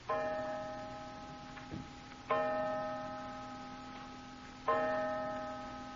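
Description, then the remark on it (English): A clock strikes five o'clock with slow, resonant bell-like chimes about two seconds apart, each ringing out and fading, with faint ticking underneath. “Five o'clock.”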